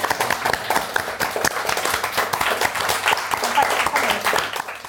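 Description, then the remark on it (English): An audience at a London Review Bookshop event applauds steadily for about five seconds, a dense wash of many hands clapping at a sustained, fairly loud level with no talking over it. “I'm just going to round the applause.”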